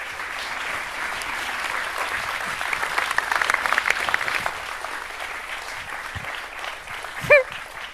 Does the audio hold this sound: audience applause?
yes